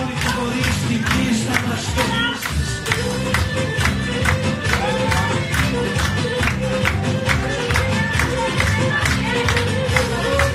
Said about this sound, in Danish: Det kunne faktisk også se ud, som om det var en eller anden form for fest. Det er altså en rask barnedåb, som vi lige kigger ind til her. Men der bliver danset rigtig meget, og nu bliver der klappet.